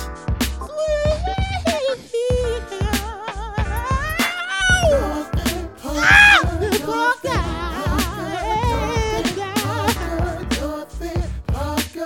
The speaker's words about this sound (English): Dog is singing now.